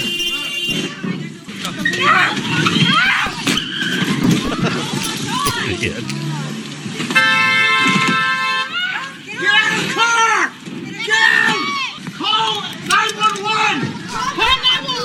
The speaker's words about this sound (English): This is what it sounds like when you try to drive away in a car that has the club on the steering wheel.